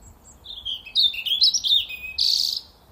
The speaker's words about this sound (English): It is a robin singing outside my front door. It's looking for a mate, I assume.